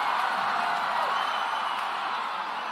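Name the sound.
audience cheering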